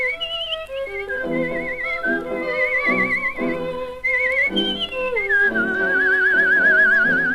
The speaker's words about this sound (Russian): В довоенное время танго записала на пластинку мастер художественного свиста